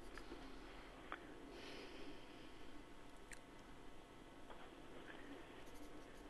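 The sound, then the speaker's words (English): Faint, rapid scratching of a pencil moving quickly across paper, a continuous soft rasp broken by brief strokes, heard alone without any voices. “I hear that pencil flying across the paper.”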